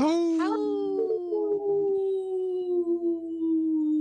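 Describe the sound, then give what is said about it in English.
On the radio show Native Roots Radio Presents I'm Awake, a person imitates a wolf howl: a single long, sustained call that rises sharply at the start, then holds a steady mid-pitched tone for several seconds while slowly sliding lower. “Oh, that was a good call.”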